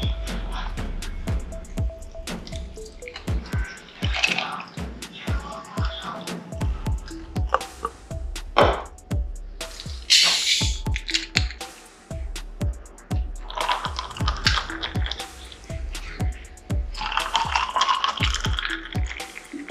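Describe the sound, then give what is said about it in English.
Energy drink and sparkling water pour from cans into a glass, half and half, with rapid, uneven glugging and splashing, followed by a bright fizzing hiss from the carbonation. Fairly loud, with no talking. “And then it just is like half and half of the energy drink and the sparkling water.”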